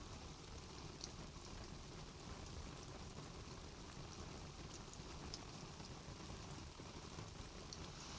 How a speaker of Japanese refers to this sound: 本当ですよ、小さい頃は雨が降るたびにはしゃいだりして。ただ ただ あの時もこんな雨だったなって。